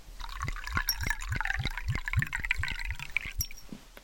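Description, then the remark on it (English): Water glugs steadily into a glass at a family meal, a quick rhythmic series of gurgling pulses with a bright splashing fill, fairly loud, with no talking. “Here you are, Harry, a glass of water.”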